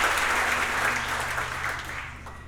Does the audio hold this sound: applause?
yes